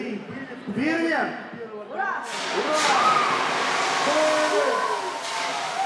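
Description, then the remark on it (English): At an election night party, as the election is called with 75.01% for Putin on a big screen, loud voices shout over a murmur, then a pro-Putin crowd bursts into a sustained, roaring cheer with sharp whistles cutting through as silver confetti flies, the noise staying loud and steady to the end. “You're listening to the crowd, which apparently is pretty pro-Putin, going crazy here.”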